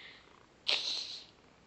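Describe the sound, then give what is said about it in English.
A male cat being petted purrs in a brief, breathy burst that swells suddenly out of a quiet background and fades after about half a second, with no talking. “You purred even louder.”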